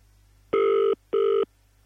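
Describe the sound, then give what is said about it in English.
A phone line ringing: two short, buzzy electronic tones in quick succession at a steady mid pitch, heard alone over a faint low hum, with no voices, as a call is placed to a mother for a birthday message live on air. “All right, I think it's ringing.”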